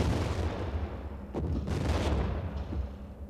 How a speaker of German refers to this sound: Er schießt weiter. Aber jetzt kann er uns nicht mehr treffen, halten wir an.